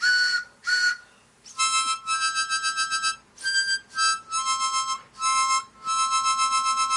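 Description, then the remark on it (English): A steam train whistle, played on listener-sponsored radio station WBAI New York as the 'BAI pitching train', sounds a series of loud, high, chord-like blasts: two short toots, then longer wavering ones broken by brief gaps, with no voices. “Oh, here it comes now. You know it's the BAI pitching train.”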